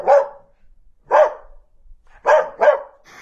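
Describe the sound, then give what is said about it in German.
A female beagle barks in loud, sharp bursts: two spaced barks, then a quick double bark, and a softer final yelp. No one speaks. “Meine Oma hat eine Hündin und sie ist ein Beagle.”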